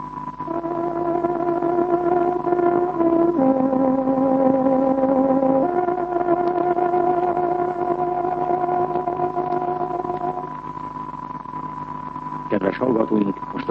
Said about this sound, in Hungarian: kedves hallgatóink, néhány másodperc múlva 6 órakor megszólal tárogatónk hangja.